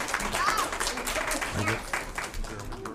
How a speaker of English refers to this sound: Bravo. Let's give her a big hand.